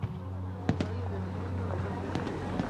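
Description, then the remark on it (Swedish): Fireworks at a water festival in Stockholm crack and pop in a few quick bursts, two close together and then a scattered cluster, over a steady low droning hum, with faint voices in the background. “De åker ut med båten, besöker vattenfestivalen och tittar på fyrverkerierna.”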